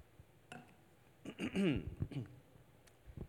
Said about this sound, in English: Pardon me while I grab a sip here, some water.